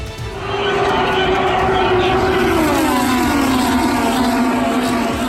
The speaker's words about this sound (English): The roar of the engines at the Indianapolis Motor Speedway, only a few weeks away.